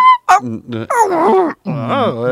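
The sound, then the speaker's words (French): A person vocalises a playful, wordless creature cry on stage at a a band's concert, a string of groaning, wailing yelps with swooping pitch, loud, imitating a baby shark's call. “le cri du bébé requin.”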